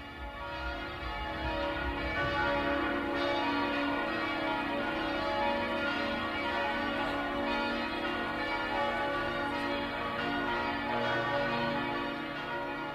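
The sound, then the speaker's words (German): Bells of German imperial cathedrals ring in Christmas: several large bells ring together in a dense, continuous peal, their deep overlapping tones sustained and resonant throughout, steady and fairly loud with no voices present. “Und nun läuten Glocken deutscher Kaiserdome die Weihnacht ein.”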